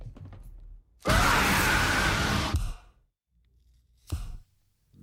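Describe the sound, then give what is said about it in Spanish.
A loud, harsh, breathy scream in a horror film trailer bursts out for about a second and a half, then cuts to near silence before a brief, sharp gasp-like burst. “Podría seguir con el tráiler, pero es una de terror, así que el 80% son gritos, como este último que has escuchado.”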